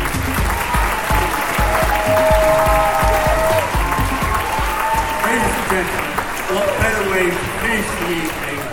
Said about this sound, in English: So for all those who've made it possible, a round of applause, please.